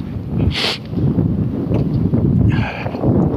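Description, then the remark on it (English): Gusty, cold wind coming straight out of the north under clear skies buffets the microphone in heavy, rumbling surges, loud throughout, with a couple of brief hissy bursts riding on top of the low roar. “It's gusty, is what it is. Get a bit of a gust on it.”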